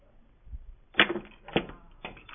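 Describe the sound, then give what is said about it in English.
A five-piece mousetrap snaps shut on a wooden pencil standing in for a mouse with a sharp crack, followed by two smaller clattering knocks about half a second apart as the parts settle. No one speaks. “Now we have all five pieces in place. Something to stand in for a mouse.”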